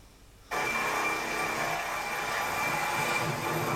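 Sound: helicopter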